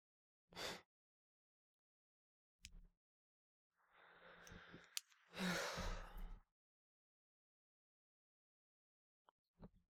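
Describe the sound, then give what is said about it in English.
A drawn-out yawn: a long breathy inhale sliding into a sighing exhale, preceded by a couple of short sharp breaths and followed by faint quiet clicks. “Oh, don't yawn, you'll set me off.”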